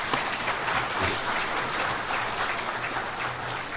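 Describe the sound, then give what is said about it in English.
Steady audience applause at an event for guests from Canada as they stand up, a dense crackle of many hands clapping at an even, sustained loudness for a few seconds with no voices over it. “I'll give them a round of applause.”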